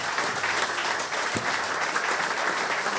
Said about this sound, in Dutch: Dames en heren, groot applaus voor Ben Wijnstekers.